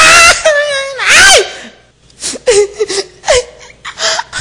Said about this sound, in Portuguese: Ai! E o que foi agora, criatura? E tu tá chorando?